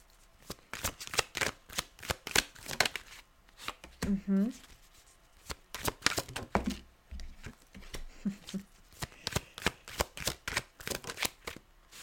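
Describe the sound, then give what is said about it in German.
Crisp shuffling and drawing of tarot cards for a weekend reading: rapid papery flicks and snaps in bursts, pausing briefly around the middle while a voice makes short exclamations, then more card handling to the end; cards drawn are the Queen of Cups, Nine of Pentacles reversed, the Devil, Four of Wands and Five of Swords. “Okay, also, ich habe hier einmal die Königin der Kelche, die 9 der Münzen Reverse, den Teufel, die 4 der Stäbe und die 5 der Schwerter.”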